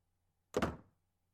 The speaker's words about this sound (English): Shh. I heard something. No, it's not the kid. No, the brat is still screaming. I think it's the door.